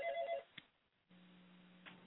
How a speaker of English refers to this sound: I hear a telephone ringing, so I was going to pick it up.